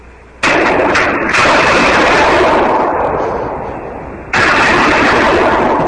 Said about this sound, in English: That was me firing. I got a rifle. I don't know how well that picked up.